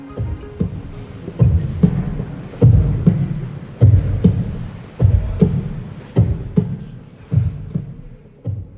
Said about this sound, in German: Aufgenommen ist dieser Herzschlag in Ihrer Ausstellung in Abwesenheit. Dort übertragen Sie in einem großen überdimensionalen Ring von Lautsprechern Ihren Herzschlag in Echtzeit.